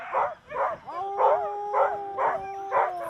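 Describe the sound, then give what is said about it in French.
Several sled dogs bark in a steady, repeated rhythm while long rising howls stretch underneath, a noisy chorus of excited dogs with no one speaking. “La convivialité, puis la chaleur qui est offerte à ces chiens par rapport à leur maître, et puis le respect de l'animal.”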